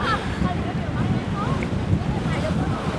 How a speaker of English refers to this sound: I guess this is like an observation deck to look out across the water. Fucking windy as shit, though.